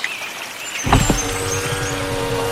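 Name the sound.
off-road vehicle driving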